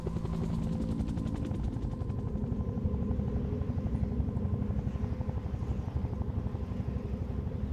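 A damaged helicopter flies off from a high, isolated, rocky plateau on a snow-swirling night, its rotors thumping in a fast, steady chop over a deep engine roar, staying loud for the whole stretch with no voices.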